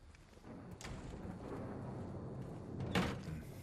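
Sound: locked door being tried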